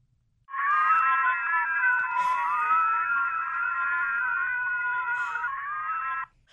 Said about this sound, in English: the noise is a combination of noises that many people hate, like fingernails scratching on chalkboards, blow horns, dentist drills. Would you like to hear the noise?